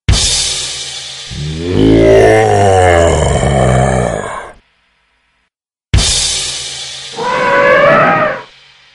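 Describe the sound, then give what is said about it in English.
A lion roars loudly, two long, rumbling bellows separated by a brief silence, with no talking. “I know you are a great magician, but can you change into a lion or an elephant?”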